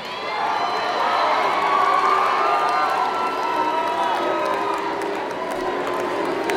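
A large audience at a live show in Philadelphia yells and cheers loudly, a dense, sustained roar of many voices with whoops rising and falling throughout, filling the whole space.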